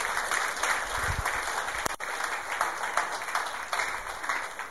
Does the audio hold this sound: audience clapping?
yes